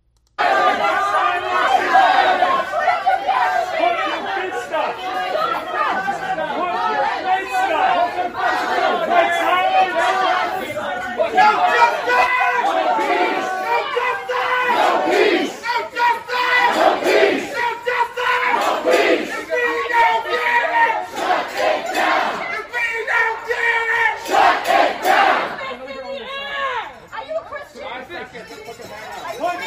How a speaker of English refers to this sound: And just in case your short-term memory does not extend back to the summer of 2020, let me remind you what those riots sounded like.